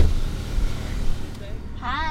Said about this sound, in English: The testing site at the Little Bighorn Casino in Crow Agency saw a steady stream of cars Wednesday.